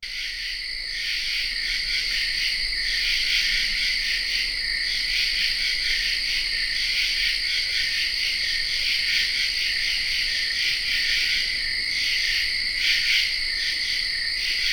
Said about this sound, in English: Let's listen to some non-bird sounds now. True katydids.